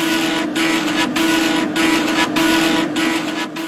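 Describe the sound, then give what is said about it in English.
A vintage dot matrix printer buzzes and rasps in loud, steady bursts, a constant low whine underneath, with brief pauses roughly every half second as each line finishes. No one speaks. “A dot matrix. Yes, a dot matrix dot printer.”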